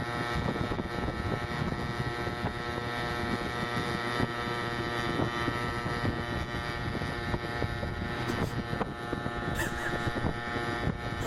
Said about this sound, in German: Und ich bin auch nur teilweise mit der Straßenverkehrsordnung vertraut, aber ich glaube, das ist kein offizieller Platz bei diesem Mofa, wie es sich anhört.